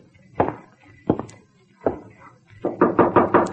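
A few spaced, hollow thuds, then a quick burst of five or six sharp raps, like knuckles knocking on a door.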